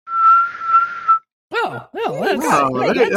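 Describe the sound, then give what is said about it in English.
A person whistles one steady, sustained high note for about a second, like a kettle, then stops. After a brief pause, lively voices and laughter follow. “That's like a teapot whistle.”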